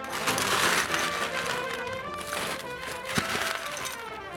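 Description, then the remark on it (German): A whole scoop of hard candies pours into a bag at the Wiesn fair on the Theresienwiese, with a dense, continuous rattling and crinkling clatter, steady and fairly loud for a few seconds, with one sharp click near the end. “So klingt es, wenn eine ganze Schaufel Bonbons in einer Tüte landet.”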